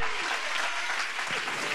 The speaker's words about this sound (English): I need somebody to clap right now.